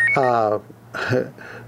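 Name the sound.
phone notification beep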